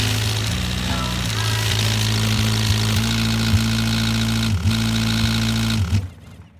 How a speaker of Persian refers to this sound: اما اون روز ماشین سبز قدیمی بابا بازی در آورده بود و روشن نمی شد. انگار سکسکش گرفته بود. وقتی هم که روشن شد هی تلخ تلوخ تلخ تلوخ تلخ